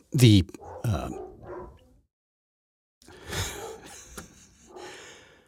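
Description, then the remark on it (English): Dogs bark, opening with a sharp, loud bark and a few rougher woofs, then after a short silence a second, noisier run of barking answers. “at some point they start barking at each other. One barks, the other barks, and the other one thinks it has to bark louder.”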